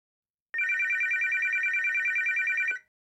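A telephone rings in one steady, continuous electronic trill lasting about two seconds, loud, with rapid even pulsing and no one speaking over it.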